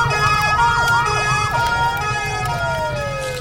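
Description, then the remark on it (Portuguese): A fire truck siren warbles in quick repeating sweeps, then slides into a long, slowly falling wail as firefighters arrive at a burning farm. It sounds loud, over a steady low engine rumble, with no voices. “Jogando baldes de água de pequenas mangueiras, todos da fazenda tentavam proteger a colheita, até que chegaram os bombeiros.”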